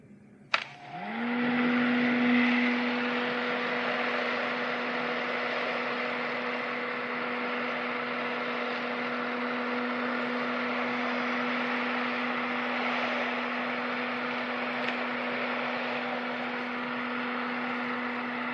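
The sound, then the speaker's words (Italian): A hair dryer clicks on and spins up to a steady, loud whooshing roar with a motor hum underneath, running continuously with no talking. “Lei ha asciugacapelli.”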